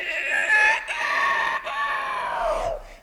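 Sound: rooster crowing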